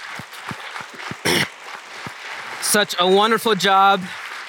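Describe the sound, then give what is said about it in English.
An audience at a Christmas Eve service applauds the volunteer worship team with a steady patter of many hands clapping, a sharp burst partway through, then loud cheering voices and whoops rise over the clapping toward the end. “Before I go any further, I just want to ask you to join me in giving our worship team a round of applause again.”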